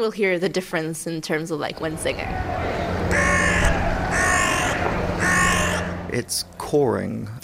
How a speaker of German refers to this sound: Das ist mehr ein Krächzen, die Art und Weise, auf die Krähen miteinander kommunizieren, um zum Beispiel einen Paarungspartner anzulocken oder Befehle weiterzugeben.